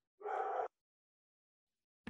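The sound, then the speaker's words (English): A single dog bark rings out, followed by a long stretch of silence before another brief sound begins right at the end. “You might have heard a dog, but on my podcast, there's always a dog barking.”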